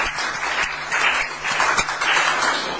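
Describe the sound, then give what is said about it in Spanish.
A crowd applauds for Señora Betancourt Anthony, who is leaving, with dense, steady clapping that swells in a few gentle waves and stays fairly loud throughout, with no voices heard. “Me te pido un aplauso pa señora Betancourt Anthony.”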